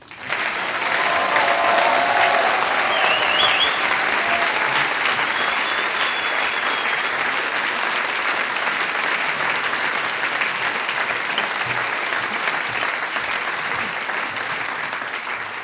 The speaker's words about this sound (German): Und ganz zum Schluss bedanke ich mich natürlich und wir bedanken uns alle natürlich mit einem großen Applaus bei unseren Gastgebern und das schon zum 15. Mal. Vielen lieben Dank der ….